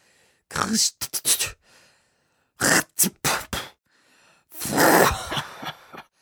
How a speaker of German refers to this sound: Die Alten, die husten und sich schneuzen.